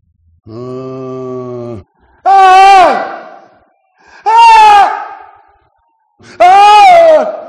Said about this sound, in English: A succession of loud and shrill screams bursting suddenly from the throat of the chained form seemed to thrust me violently back.